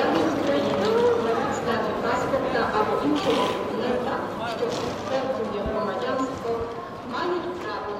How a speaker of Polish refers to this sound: Dworzec jednak żyje dalej, tłumiąc niepewność uchodźców dźwiękiem ruchomych schodów i ciągniętych walizek.